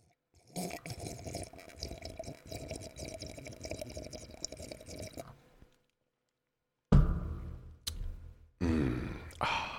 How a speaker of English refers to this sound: you can't do that slurp on the microphone. That's gross.